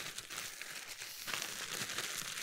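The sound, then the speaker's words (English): A Ziploc plastic bag crinkles steadily as it is pressed and zipped shut, a soft rustle lasting a couple of seconds with no voices. “Zip this up.”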